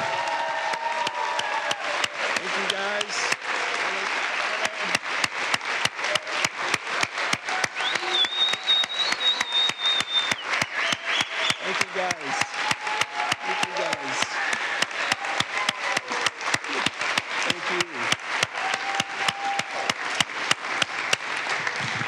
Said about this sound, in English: I'd like to actually just give a really uproarious round of applause to all the staff. Can we just show them our love and support?